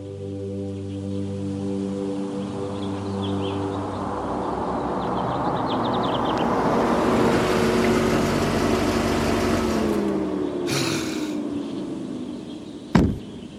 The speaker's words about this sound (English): Ralph Ansbach slammed his car door shut.